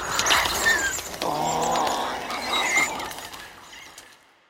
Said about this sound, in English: But in this case, you're choosing higher pitch sounds, bird sounds, and even taking pitched up lions so that you don't have any more of that big weighted growl. You just have these unique squeaks and squeals.